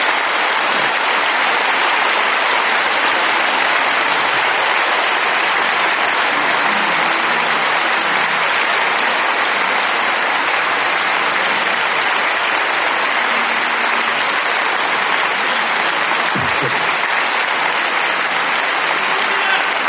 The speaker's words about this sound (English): Give them a hand clap as they come.